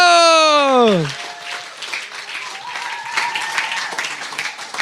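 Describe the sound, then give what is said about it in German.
A short descending musical swoop gives way to sustained applause from an audience, a dense, steady patter of many hands clapping that carries on to the end. “Deswegen einen ganz großen Applaus”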